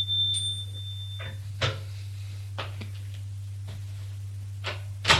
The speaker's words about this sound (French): Le père sonne à la porte.